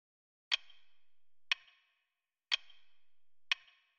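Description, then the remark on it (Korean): A clock ticks four times at an even one-second pace in a funeral home's family waiting room, each sharp, crisp click ringing briefly before near silence, with no voices. “그날따라 시계 소리가 날카롭게 들렸기 때문이었다.”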